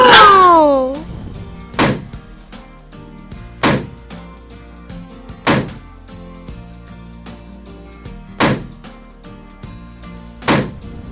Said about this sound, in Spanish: ¡Hala! ¡Nos ha explotado algunos globos!